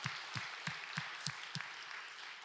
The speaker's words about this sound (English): So I just want to take a minute just to celebrate that and say, let's give ourselves, give the Lord just a hand clap.